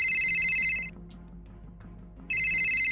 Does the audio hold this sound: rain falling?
no